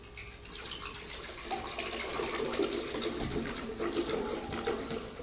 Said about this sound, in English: I poured it a little fast, so there's some bubbles.